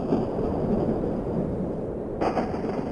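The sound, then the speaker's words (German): A thunderstorm on a cool autumn day in 2012 rumbles in a steady, heavy low roar with a hissing wash on top, swelling into a brighter burst near the end. No voices are heard. “Plötzlich zielte ein Gewitter auf.”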